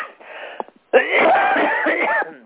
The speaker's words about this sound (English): Excuse me. Sorry. Once I start coughing, it's hard to stop.